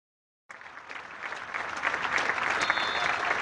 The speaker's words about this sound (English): Well, there you had a very heartfelt, genuine and poignant minute's applause as red and white balloons now are released high into the sky by the scores of City Cubs who made their way out onto the pitch pre-match,